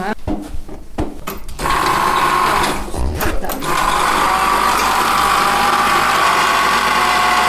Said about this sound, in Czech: tenhle ten klimatizační přístroj, který si tady můžou návštěvníci i sami pustit. Po vhození pouhé 5 koruny, tak se uvede do provozu